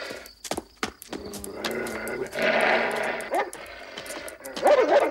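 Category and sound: animal, dog barking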